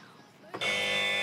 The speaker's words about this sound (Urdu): buzzer بجائی ہے